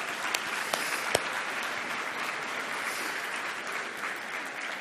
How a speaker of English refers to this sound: And I really appreciate the worship team, you guys. I know you put so many hours into preparing. I know you put so much heart and effort into it. It takes courage. It takes all kind of things. So can we just give our worship team a round of applause?